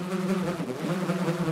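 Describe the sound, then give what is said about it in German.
A steady drone of bees buzzing around beehives at a farm, several overlapping hums forming a continuous swarm sound with no pauses, heard alone without any voices. “Bei einem Bauernhof sah er Bienenkörbe.”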